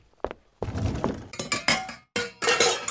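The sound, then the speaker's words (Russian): Metal cookware clatters and clanks as pots and pans, including a saucepan, a colander and a frying pan, are shifted around in a kitchen cupboard while someone searches for a frying pan, a run of loud, irregular bangs and scrapes with short pauses between. “Это кастрюля. Это, не знаю что. Это дуршлаг. Ага, вот и сковорода.”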